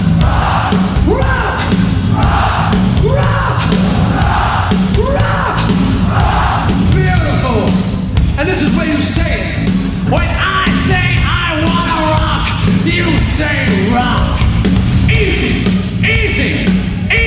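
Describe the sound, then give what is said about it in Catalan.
A large crowd at Hammersmith shouts the single word "Rock!" in loud, rhythmic unison, the chant repeating roughly every second before dissolving into a dense, overlapping roar of yelling voices. “No problem, 'cause for the past 2 years I've been trying to get you to say I like it, and I found that some of you people were too messed up to say 3 words, so now you only gotta say 1 word. Rock!”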